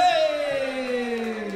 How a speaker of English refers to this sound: That's the end. Clap.